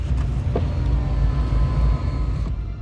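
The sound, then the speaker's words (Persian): A car rolls in with a steady, low engine rumble and road noise throughout, with a couple of faint clicks and no voices. “یه ماشین میاد تو.”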